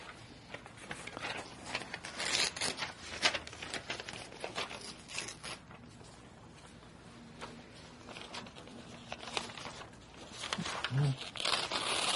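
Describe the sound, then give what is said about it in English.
A page of paper is torn into two pieces in a series of rough, crackly rips and crinkles, some longer and some short, over about twelve seconds. “This is such a good piece of paper, it rips very easily.”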